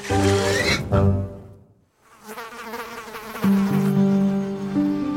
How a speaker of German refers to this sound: Das Tier, das wir suchen, ist ein Zweiflügler und wird auch Spaltschlüpfer oder Sechsfüßer genannt. Ein Vogel ist es also nicht.